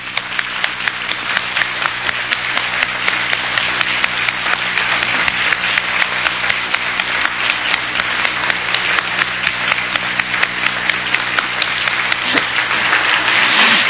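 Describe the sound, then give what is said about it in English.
Sustained applause from a large crowd fills the hall for the ad hoc collective that produced the day's Pacifica Network program, a dense, steady wash of many hands clapping at once, loud and continuous from start to finish with no talking over it. “Why doesn't the ad hoc collective that did this program today stand up right now so we can give you a round of applause?”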